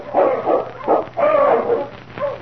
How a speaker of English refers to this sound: The following day, Ulak had gone out to hunt when Sergeant Preston heard the sound of his dog team, which meant Keok's return.